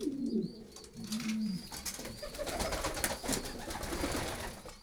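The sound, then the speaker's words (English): Soft, low pigeon coos burble for the first couple of seconds, then fade into a steady rustling outdoor backdrop with faint chirps high above. “The pub even had a clock for timing the pigeons' return to their lofts, often from a release point in France where they were taken by train.”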